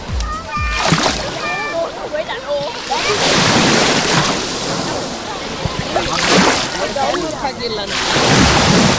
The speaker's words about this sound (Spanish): Lo primero que haremos no será comprobar la temperatura del agua, sino el sonido. Así es como hoy suena el mar Mediterráneo. Déjate llevar.